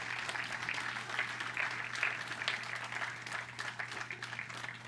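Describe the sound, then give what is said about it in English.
An audience applauds steadily, a dense patter of many hands clapping at a fairly even volume for several seconds, over a faint low electrical hum, with no one speaking. “You can clap for that.”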